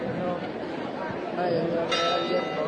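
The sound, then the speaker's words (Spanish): A church bell rings out in the afternoon with a sustained, resonant tone over a murmuring outdoor crowd at a Holy Week procession of nazarenos, with a fresh strike brightening the sound near the end. “Sigue la campana rompiendo la tarde.”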